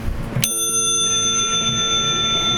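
A single crane bell on a black bicycle is flicked once, giving a bright metallic ding that rings on with a long, shimmering decay. No one speaks.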